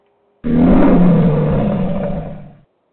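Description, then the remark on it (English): A single loud, rough lion roar bursts in abruptly, holds for about two seconds with a deep rumbling growl, then fades and cuts off. No talking alongside it. “I'm going to roar like a lion.”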